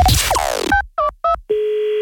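A brief whooshing musical sweep gives way to three quick telephone keypad beeps, then a steady, loud telephone dial tone hums on alone until the end, as a prank phone call is placed.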